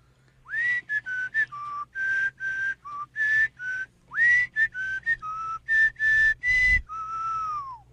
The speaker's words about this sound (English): Call for whistler number one. Okay. Here we go. Wet your whistles. Whistler number one, take it away.